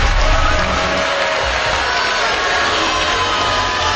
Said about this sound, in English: The audience was not happy that Chris Richardson was in the bottom three and Sanjaya was not. And started booing.